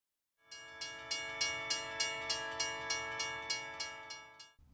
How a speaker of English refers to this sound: Look at the railway crossing. The bell is ringing and the bar is coming down. Stop here, everyone. A train is coming. We have to wait here.